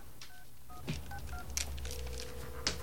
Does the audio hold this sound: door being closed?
no